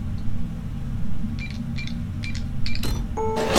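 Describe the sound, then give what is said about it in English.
A printer producing pills, such as pain medication and cough suppressant: short mechanical whirs and clicks in a few quick bursts over a steady low hum, ending in a louder hissing, rattling rush. No one speaks. “I have pain meds, cough suppressant, etc. waiting for you in the printer.”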